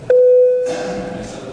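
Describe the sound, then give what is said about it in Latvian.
A single electronic chime, the call bell before a vote in parliament, rings out as a steady, clear tone lasting just over half a second, then fades into a soft murmur and background noise. “Lūdzu zvanu.”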